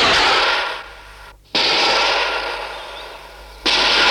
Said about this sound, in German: Da zerrissen plötzlich mehrere Schüsse die morgendliche Stille.